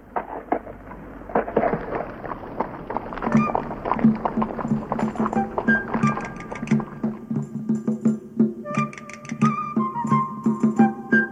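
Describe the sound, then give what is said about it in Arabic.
Horse hooves clip-clop at a steady walking rhythm in a scorching, sunny desert, with creaking wood and faint jingling tones above them. No one speaks. “والآن هيا، الحصان جاهز ينتظرنا.”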